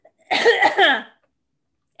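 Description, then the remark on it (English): A single loud cough with a harsh, raspy burst lasting under a second, followed by silence and the start of another sound at the very end. “I'm going to cough again.”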